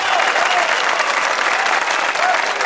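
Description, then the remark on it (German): A cheering and applause sound effect: a crowd claps and cheers steadily, a dense wash of applause with scattered whoops rising above it, loud and sustained throughout without any break. “Und das ist mal einen ordentlichen Jubelwert.”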